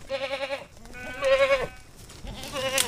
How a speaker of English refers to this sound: Yeah, goats. By the way, this recording is not of those particular goats.